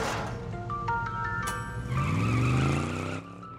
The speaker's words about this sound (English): Nearby, Reed turns the truck ignition.